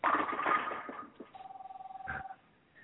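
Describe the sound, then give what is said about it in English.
A telephone rings with a steady, rapidly pulsing electronic trill lasting about a second, following a short burst of muffled voices and noise at the start. “Those are phones ringing.”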